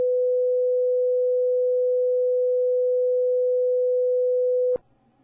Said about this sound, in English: And to give you an idea of what that sounds like, we're going to play a few examples of what certain tones sound like. This is an example of 500 hertz.